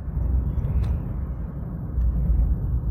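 truck passing close by

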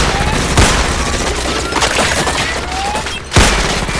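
gunfire bursts

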